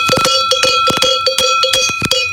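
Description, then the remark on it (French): A dark-toned sheep bell of the 'pique' type, the lead bell placed at the front of the flock, clanks repeatedly in an uneven, rocking rhythm, fairly loud, with a steady metallic ring sustaining between strikes and no voices. “C'est la cloche que l'on met à l'avant du troupeau.”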